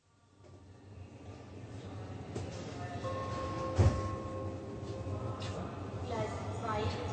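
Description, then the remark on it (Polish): A busy train station as a train to Berlin gets ready to leave and passengers board, with a steady low rumble, murmuring passengers, a sharp thump partway through, and a faint high metallic tone. “Andrea z Eksem wsiadają do pociągu berlińskiego.”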